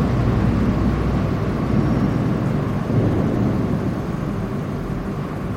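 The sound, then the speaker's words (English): A boat passes in London with a steady, loud low engine rumble and a broad wash of churning noise that holds for several seconds without breaks. No one speaks. “There's a boat.”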